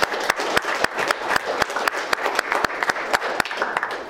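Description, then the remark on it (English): An audience applauds steadily to thank the spouses of a team, a dense wash of many hands clapping with sharper individual claps popping out above it, holding at an even, fairly loud level for about four seconds without voices. “So let's give all of the spouses a big round of applause.”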